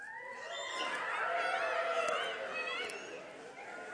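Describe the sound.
A group of children crow like roosters all at once, a loud, overlapping chorus of high, wavering voices that keeps going for several seconds.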